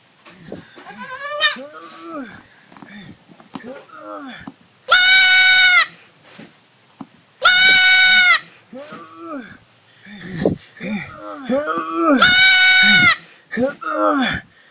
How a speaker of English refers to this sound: we're struggling to rescue a sheep that got stuck between two thorny shrubs.